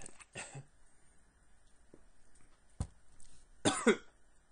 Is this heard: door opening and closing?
no